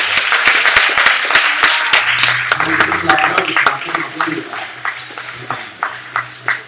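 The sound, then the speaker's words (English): A church audience claps hands together for the Lord in a steady, fairly quick rhythm, the sharp claps carrying over a low sustained tone and a murmur of voices, gradually thinning out toward the end. “Come on, clap your hands on the”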